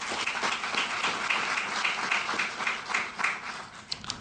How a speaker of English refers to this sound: Again, one round of applause for Astrolab. Congratulations.